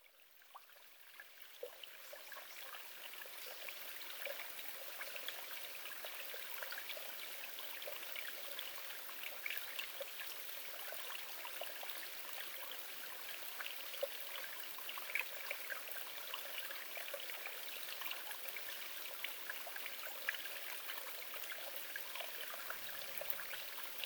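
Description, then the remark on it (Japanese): A gentle babbling stream, not a large river but a slow, calm flow like one in the mountains or forest, its soft bubbling and trickling water continuous, with no voices or other sounds. “こちら、川のせせらぎ、川の流れの環境音です。”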